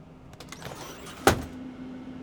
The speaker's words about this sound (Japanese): あのですね。このトイレのドアを開けて